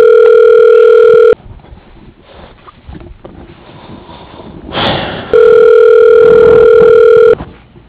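Two long, loud electronic ring tones of a telephone on an outgoing call to National Restaurant Supply, each a steady buzzing pitch lasting about a second or more, separated by a stretch of quiet line noise and faint rumble.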